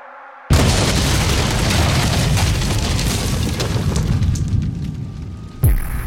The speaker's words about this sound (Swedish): Klockan är 22 minuter över 10 på morgonen när en öronbedövande explosion skakar om hela kvarteret. Bombens sprängkraft får hela baptistkyrkans tegelfasad att kollapsa.